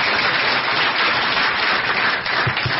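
Steady audience applause: a dense, even wash of many hands clapping at once, loud and sustained throughout with no voices breaking through.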